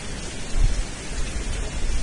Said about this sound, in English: Now there's this new thing where it rains and there's wind